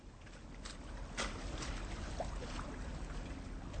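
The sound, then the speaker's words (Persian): Oars dip and splash in the water at an unhurried, irregular pace, a handful of soft strokes heard against a steady background wash from a rowing boat coming back across a lake at a rowing club in Mecklenburg-Vorpommern, Germany. “Sehen Sie, jetzt kommen Sie zurück. Ach, ich würde auch noch mal gern rudern.”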